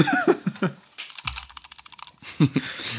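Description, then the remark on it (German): A quick run of crisp computer keyboard clicks taps out for about a second, like someone typing or clicking keys, with brief bits of speech just before and after. “Ohne, dass du jetzt im Hintergrund früher umeinander klickst.”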